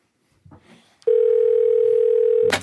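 A phone call being placed to the Red Lion Hotel, Elizabeth North: a faint rustle and a sharp click, then a loud, steady mid-pitched telephone dial tone hums for about a second and a half before cutting off in a brief burst of noise.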